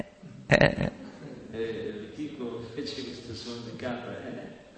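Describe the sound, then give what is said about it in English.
A person imitates a goat's bleat: a loud, abrupt, throaty cry followed by several seconds of wavering, nasal voiced sounds with no clear words. “Likingo looked at him and just made that goat sound.”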